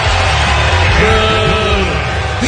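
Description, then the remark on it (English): A loud, continuous roar of a stadium crowd yelling, with a few individual voices rising and falling above the dense wash of noise. “This is the crowd.”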